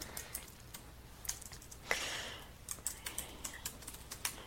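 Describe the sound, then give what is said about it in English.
Quick, irregular keystrokes clatter on a computer keyboard as someone types notes, fairly quiet, with a brief rushing swell in the middle and no voices. “I'm typing it in my notes that I'll be talking about vibrations.”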